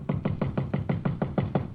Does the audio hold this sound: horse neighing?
no